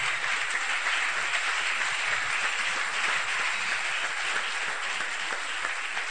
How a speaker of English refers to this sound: Hallelujah. Clap those hands to the Lord.